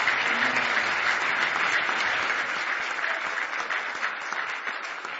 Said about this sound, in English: Give him a nice hand tonight as he comes.